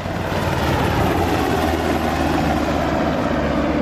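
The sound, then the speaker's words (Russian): A Black Hawk helicopter roars, its rotors and engine making a steady, loud, low throbbing whir that holds constant throughout with no voices. “Судя по появившимся видео, два вертолета Black Hawk высадили около 20 военных спецназовцев.”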